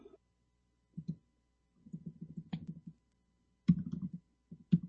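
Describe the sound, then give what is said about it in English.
Rapid clicking of keys on a computer keyboard, typed in a few short bursts with pauses between them, fairly clear with no voices, as someone types "Mozilla" to start up a web browser. “God, I wanted to start up my browser, and I was typing in Mozilla, and I'm like, Mozilla, what the hell?”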